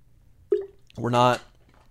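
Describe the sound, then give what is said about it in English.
A single quick, wet sip or swallow of water, followed by a contented, drawn-out voiced sigh of refreshment; otherwise quiet. “Water break.”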